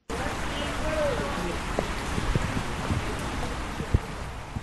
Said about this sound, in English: The lack of rain in December put a damper on hopes that the next harvest may just be enough to get by. Now the rains have finally come.